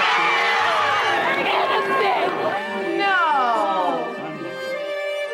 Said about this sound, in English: People weren't cheering O.J. Simpson, per se. They were cheering that one time, it seemed that the criminal justice system balanced in favor of a black person.